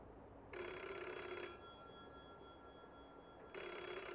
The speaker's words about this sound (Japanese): 電話が。ひじりかもしれないぞ。